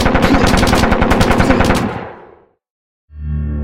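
A long, rapid burst of machine gun fire as Bolivian troops open fire on Che's guerrilla fighters crossing a river, loud and steady for about two seconds, fades out. After a short silence a low, droning tone rises.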